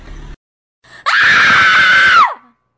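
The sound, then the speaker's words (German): A girl's loud, sustained high-pitched scream lasting over a second, piercing, then cutting off abruptly. A brief low sound comes just before it. “Habt ihr euch beim Schrei des Mädchens erschreckt?”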